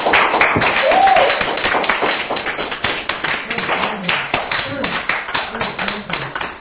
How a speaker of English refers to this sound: Come on, somebody give God a hand clap.